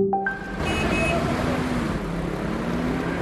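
Steady road traffic of petrol and diesel cars: a continuous roar of passing car engines and tyre noise, loud, with a few brief tonal beeps near the start.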